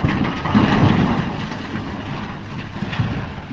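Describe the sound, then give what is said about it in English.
A heavy, rumbling crash as an earth mover at a pier at Freshkills drops twisted metal and concrete into the bed of an enormous dump truck, knocking the truck a few feet sideways; loudest in the first second, then a steady low mechanical roar with scattered clanks. “At a pier at Freshkills, an earth mover drops twisted metal and concrete into the bed of an enormous dump truck, which is knocked a few feet sideways by the impact.”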